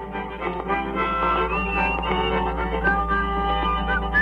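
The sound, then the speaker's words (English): A man whistles a bright, steady melody along with his own record playing, taped on an early tape recorder around 1950, his thin tones riding just above the full band sound at a constant moderate loudness. “You could hear him overdubbing and whistling and harmonizing with himself.”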